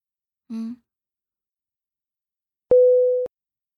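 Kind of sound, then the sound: signal or alarm, video call ringing tone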